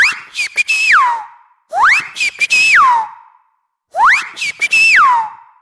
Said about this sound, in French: En fait, cette sonnerie, c'est la nouvelle sonnerie de récréation de l'école élémentaire Pierre Budin, 18e arrondissement de Paris. Et c'est aussi un projet artistique,